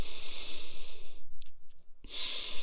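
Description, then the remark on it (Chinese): Two long, airy sniffs drawn in through the nose at a foot held under the nose, the first lasting about a second, then a short pause with faint clicks before a second breathy inhale begins. No talking. “对，吸鼻子，”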